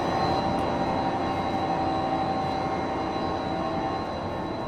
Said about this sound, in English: So why is this making so much noise? Why are they making so much noise? Yeah. That's just the hum of the motors themselves.